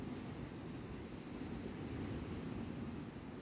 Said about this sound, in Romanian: Ești întins exact unde valurile ajung la țărm.